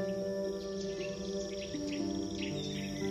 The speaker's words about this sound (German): Die Luft ist heiß und feucht. Und du hörst exotische Vögel singen.